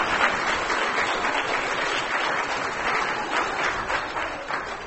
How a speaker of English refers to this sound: Isn't that great, everyone? Yes. Give another round of applause.